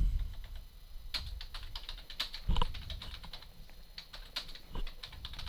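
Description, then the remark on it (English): Rapid, irregular clicking of keys on a computer keyboard with a few heavier thumps, continuing steadily for several seconds with no talking. “I didn't write any of that down. Why not? I was having keyboard difficulties.”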